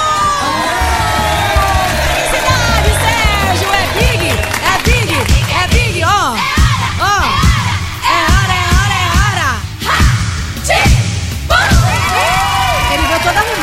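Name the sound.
crowd applause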